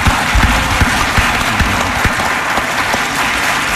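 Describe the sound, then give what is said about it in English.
A crowd applauds steadily for a shooting victim's parents and teachers from Douglas Stoneman who are in the audience, many hands clapping in a dense, continuous wash of sound that stays loud and even throughout, with no voices standing out. “And I think on behalf of all of us, we need to welcome you and applaud you for being here tonight.”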